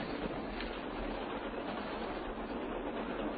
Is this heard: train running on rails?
yes